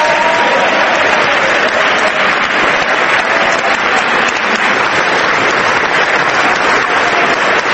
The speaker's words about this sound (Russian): 1 августа она появилась в Палате представителей Конгресса, где ей была устроена громовая овация. Конгрессвумен Габи Гиффордс.